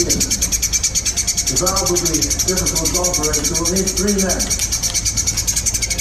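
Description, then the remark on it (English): A trapped bird chirps rapidly and steadily for the whole stretch, a continuous high-pitched pulsing, while a muffled, voice-like tone rises and falls briefly in the middle. “This is the birds.”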